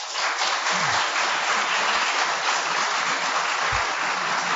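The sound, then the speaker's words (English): An audience applauds to vote for item three, that less emotional control predicts good recovery from psychological trauma; a dense wash of many hands clapping at an even, fairly loud level throughout, with no voices standing out. “And item number three, if you think that less emotional control predicts good recovery from psychological trauma, applaud now.”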